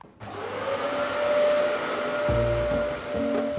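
A Hoover vacuum cleaner starts up and runs steadily, its motor holding a loud, continuous whine with a low rumble that shifts slightly partway through, with no voices.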